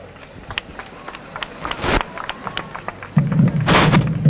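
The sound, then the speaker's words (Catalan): A salvo of firework bangers fired to separate the versots of a devils' (diables) performance: a rapid, irregular string of sharp cracks, with two especially loud bursts and a low rumbling roar building under the later explosions. “Una altra salva de foc per separar aquest versot dels altres.”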